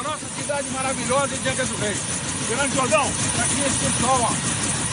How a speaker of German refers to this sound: steigt mit der bewaffneten Zivilpolizei in den Helikopter, fliegt über eine Favela in Angra dos Reis im Bundesstaat Rio de Janeiro und die Polizisten schießen aus der Luft nach unten.